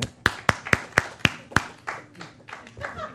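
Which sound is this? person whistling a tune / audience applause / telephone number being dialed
audience applause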